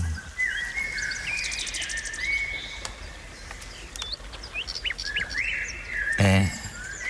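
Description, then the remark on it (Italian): A chorus of bird calls: high chirps, whistles and trills overlapping continuously over a steady outdoor hiss, with a brief louder burst near the end. “La sesta delle fatiche consisteva nella caccia di uccelli del lago Stinfalo, animali che si cibavano di carne umana.”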